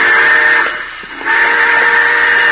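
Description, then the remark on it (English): A loud steam train whistle blows in a sustained, shrill tone, dipping briefly in the middle before resuming at full strength, with no talking. “Hey, the train!”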